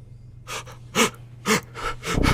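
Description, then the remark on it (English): Ragged, desperate gasps for air from a body torn in half by a purple worm: several sharp breathy intakes in quick succession with strained exhales, fairly loud over a low steady hum. “Grimdek's eyes look up at Sandor's with fear and shock, his body futilely gasping for air.”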